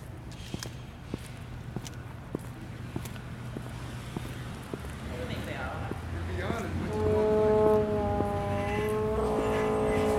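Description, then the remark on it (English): Street traffic rumbles with passing footsteps, then an ambulance siren swells in partway through at a street corner, its wavering wail growing loud and continuing to the end. “The ambulance comes here a lot. I hear that a lot.”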